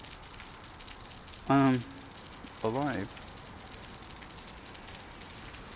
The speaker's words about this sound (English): I don't know if you can hear the water that is falling, it is making some noise.